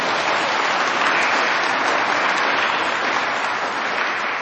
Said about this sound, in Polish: I już teraz przywitajmy obecnego wśród nas księdza biskupa Antoniego Długosza. Gorące brawa dla księdza biskupa!